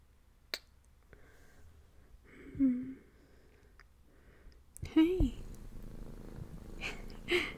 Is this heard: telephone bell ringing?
no